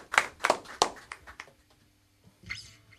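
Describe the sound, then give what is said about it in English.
Scattered handclaps from a small studio audience at the WYSO Community Concert, applauding William the Accountant and Johnny Dredd, a handful of sharp claps in the first second and a half that thin out and fade, followed by a brief muffled burst near the end. “Studio audience, let's give them a big round of applause.”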